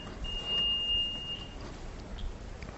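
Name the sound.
bell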